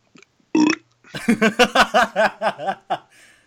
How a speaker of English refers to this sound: I just got burped, baby boy. That's four. Are you counting the burps?